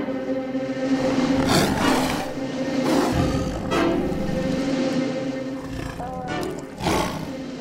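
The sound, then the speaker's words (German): A lion roars in several deep, rumbling bursts with growling breaths between them, loud and sustained across the whole stretch. “Stellen Sie sich für einen Moment vor, liebe Hörer, Sie würden einem Löwen begegnen.”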